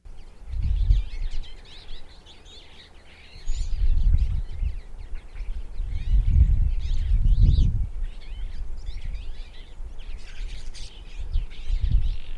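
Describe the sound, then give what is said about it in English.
A twite's song, a small passerine bird of the finch family: a steady run of quick, high twittering notes that chatter on for the whole stretch, over low, intermittent rumbling bursts like wind gusts. “The bird is indeed the Twite.”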